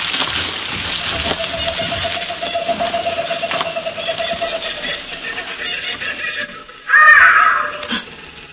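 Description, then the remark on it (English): Birds call out in a short, loud burst of harsh cries near the end, rising over a steady hissing, rustling background with a faint sustained tone earlier on. “Those are only birds.”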